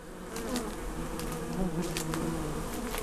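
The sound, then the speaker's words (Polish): A dense, steady drone of many bees buzzing around a blooming hundred-year-old linden tree, their overlapping wingbeats rising and falling slightly in pitch, almost on one note, moderately loud and continuous throughout, with faint outdoor clicks in the background and no voices. “Suche, jak ona kwitnie, jak te pszczoły zaczną chodzić. To jest, chciałem powiedzieć, muzyka.”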